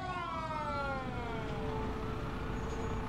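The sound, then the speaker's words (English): A full-size fire engine's siren wails with a long, falling tone over a low, constant engine rumble, steady in loudness throughout, as it arrives at an apartment. “Whoa, that's like a full-size fire truck.”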